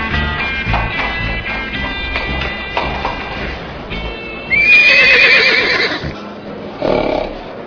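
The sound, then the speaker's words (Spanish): A horse neighs loudly, its whinny rising and wavering, while hooves clip-clop steadily underneath. There is no talking. “bajó de su caballo y, con paso decidido, entró en el salón de Silver City.”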